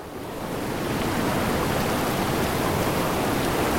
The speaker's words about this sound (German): Der Fluss ist lauter, der Fluss ist lebendig, da lebt er. Man kann das sogar hören. Also wir haben eigentlich da ein verzweigtes Fließgewässer.